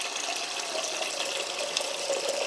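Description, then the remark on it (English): A tap runs steadily, water streaming into a huge dog bowl filled as drinking water for several dogs and cats, with a continuous hissing splash that holds at an even level throughout. “Big, huge bowl of water for all of them.”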